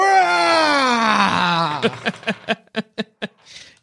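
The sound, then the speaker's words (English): A man lets out a loud, drawn-out bellowing scream that slides downward in pitch, then breaks into a quick series of short, rhythmic gasping bursts before fading out. “You're not sure what's happening inside until you hear … bellowing a scream.”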